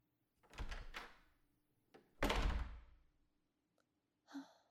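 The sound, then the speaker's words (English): A door is handled and shut with two solid bumps as someone walks out and leaves, the second bump louder and fuller, followed by a short breathy exhale amid quiet. “Just walk out of the door and leave, please.”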